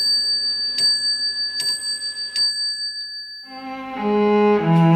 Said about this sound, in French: Nej, jag hör bara vinden. Och klockorna som tickar.